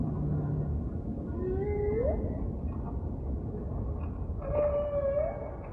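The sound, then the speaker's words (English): Two drawn-out, rising tonal moans from humpback whales off Hawaii in winter float over a thick, steady wash of low underwater noise, with a long gap between calls and no voices, picked up by a microphone on the summit of an active undersea volcano about a kilometer deep. “And in the wintertime in Hawaii, the humpback whales swim down from Alaska, and so they happen to be in the area in January and February.”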